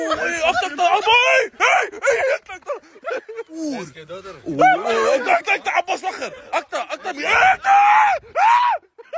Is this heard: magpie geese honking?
no